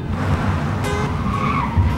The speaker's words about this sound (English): The chauffeur-driven car turns off the motorway